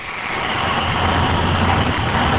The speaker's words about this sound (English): Now he's rinsing again. That's what I like to hear. Almost sounds like frying eggs.